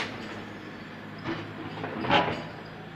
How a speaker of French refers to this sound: La rue en travaux.